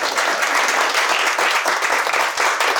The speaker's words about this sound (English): That's really good. See, that deserved the applause, not the first line.